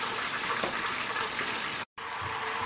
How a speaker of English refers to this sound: Let it settle in, let it start frying, and the dough will stick to the bananas and it'll kind of become a little hard.